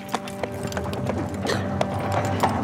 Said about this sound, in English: The ambulance is pulled along the passageway by a single horse.